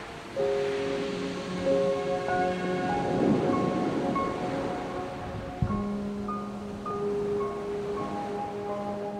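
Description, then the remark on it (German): A steady wash of ocean waves swells and recedes beneath soft, sustained synthesizer tones, with no voices, creating a calm, continuous ambient bed. “Die Musik und die Geräusche des Meeres beruhigen mich auf meinem Weg in den Schlaf.”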